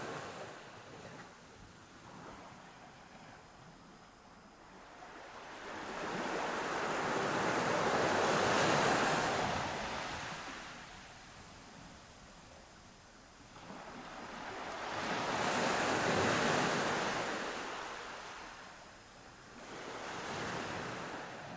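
Ocean waves wash in slow, broad surges, two big swells rising and falling about eight seconds apart over a steady hiss of surf and faint wind, with no voices.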